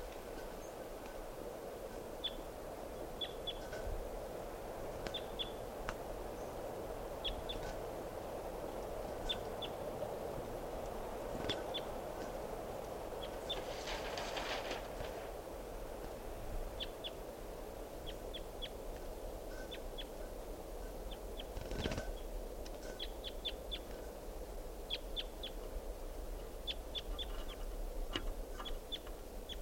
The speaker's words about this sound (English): Recording Wild Bird here.